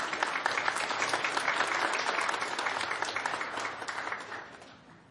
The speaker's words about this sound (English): Let's have a round of applause for our guys.